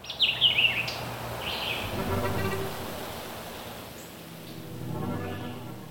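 Birds chirp and twitter in short, bright bursts in the branches of a birch tree, over a steady rushing, breezy background, with the calls scattered and moderately faint.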